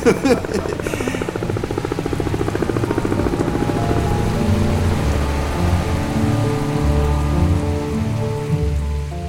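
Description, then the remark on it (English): Heavy pouring rain falls in a steady, dense roar, loud, with a deep low rumble running underneath throughout. No voices are heard. “Bob stood there in the pouring rain, his hands full of cigarette butts.”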